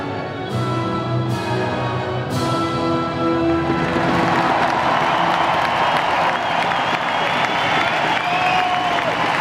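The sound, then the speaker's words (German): A large stadium crowd of German fans sings along loudly in unison, a dense, continuous roar of massed voices with sustained tones that blurs into a broad wash of cheering. “Ich weiß nicht, ob ihr das hört, aber man hört wirklich die Deutschen im Publikum sehr laut mitsingen.”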